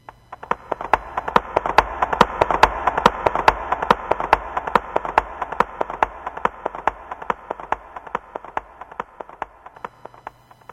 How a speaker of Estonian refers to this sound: Kapates hobusel.